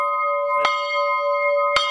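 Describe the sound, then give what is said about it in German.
The bell from the prayer house of the Heinitzbruch quarry rings out twice, each strike a bright clang followed by a long, sustained metallic hum that carries steadily between the strokes. No one speaks. “Wir haben die Glocke aus dem Bethaus.”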